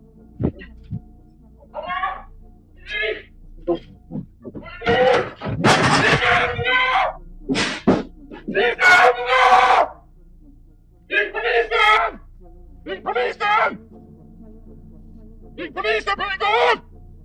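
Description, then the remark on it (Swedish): A string of loud, strained screams and shouts rings out in bursts over about a dozen seconds, echoing across a yard outdoors as robbers flee a robbery, with a low steady hum beneath; captured by a surveillance camera. “Vakten flyr in i huset och alla rånare flyr sen hals över huvud, samtidigt som skriken ekar över gården. Ljudet fångas också av övervakningskameran.”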